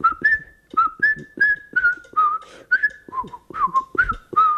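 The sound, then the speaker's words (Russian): A person whistles a short melodic phrase from a Bach fugue, about ten quick, clear notes in a steady rhythm, fairly loud, with no talking over it. It is a signal whistle left over from jazz days and used by the whole theatre. “Это была фуга Баха. Я сейчас попытаюсь ее просвистеть”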